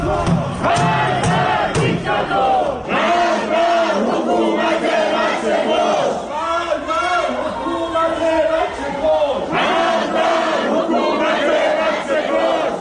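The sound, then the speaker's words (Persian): A large crowd of anti-government protesters in Shahrak-e Ekbatan, Tehran, Iran, on Thursday evening chants loudly and continuously, many voices shouting together in repeated rhythmic phrases with brief pauses between bursts. “این صدای معترضان در شهرک اکباتان است که میشنوید.”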